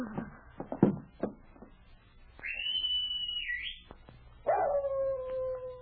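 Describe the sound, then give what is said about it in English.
A white dog-like animal on a trail from a mine at night gives several sharp barks, then a distant high thin whistling tone sounds, followed by a long, loud, wavering howl that sweeps downward and holds steady. “The animal howled again and raced back up the trail.”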